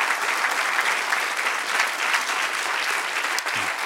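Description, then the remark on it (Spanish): A church audience applauds steadily for God at a preacher's call, dense clapping from many hands filling the room at an even, loud level for a few seconds without pause. “Dale un aplauso al que reina por los siglos de los siglos.”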